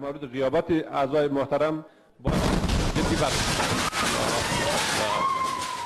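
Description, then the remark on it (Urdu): A man speaks calmly for about two seconds, then a sudden, loud explosion cuts in, followed by a sustained roar of noise and crackling that may be gunfire, lasting to the end. This is an attack on Afghanistan's parliament in Kabul during a lower house session, carried live by parliament TV, at the new defence minister's swearing-in. “Lower house کے عمومی اجلاس حسب معمول جاری تھا اور پارلیمان کی ٹی وی عمومی جلسے کی لائیو کوریج کر رہا تھا کہ اچانک دھماکہ ہوا.”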